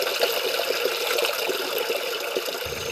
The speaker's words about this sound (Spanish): En mis tiempos se escuchaba el bujir del agua en el grifo.